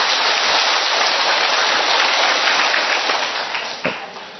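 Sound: big round of applause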